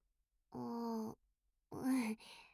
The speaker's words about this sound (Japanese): やだ、お兄ちゃん。あくびしてるところ、そんなにじっと見たら恥ずかしいよ。